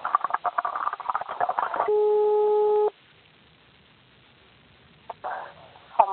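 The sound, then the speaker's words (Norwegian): A steady electronic telephone busy tone sounds for about a second as a call to the law firm Hannevall & Co drops, after some garbled, muffled speech, followed by near silence and a couple of faint clicks and brief noises. “Ja, det bröt här.”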